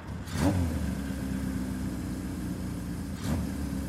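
motorcycle engine running

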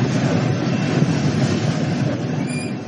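train rolling on tracks

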